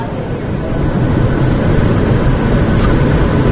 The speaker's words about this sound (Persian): بلند شد هواپیما رد شد.